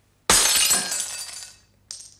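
Glass smashes with a sudden, loud crash, its bright tinkling fragments ringing out and fading over about a second, followed by a brief second clink of shards. No one speaks.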